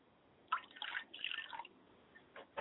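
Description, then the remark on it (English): A libation being poured during a prayer, offered to the lady of the water: liquid in short, uneven splashes and trickles, with a longer gush in the middle and a few brief drips toward the end. Quiet overall, with no one speaking. “And I say, Ashe, as I pour this libation for her.”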